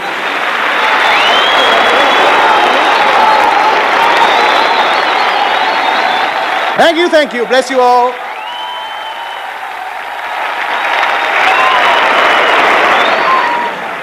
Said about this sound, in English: they love me out there tonight. Listen to them beating the daylights out of their hands there.